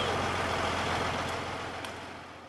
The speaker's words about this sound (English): Meanwhile, the oil industry is trying to maintain good relations with the community, staging events like this Energy Festival Parade in downtown Williston. Industry rigs and trucks of every description roar by as drivers throw candy to the kids.